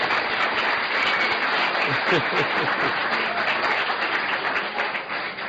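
Steady, dense applause from a crowd fills the whole stretch, a loud continuous patter of many hands, with faint voices mixed in and a slight fade toward the end.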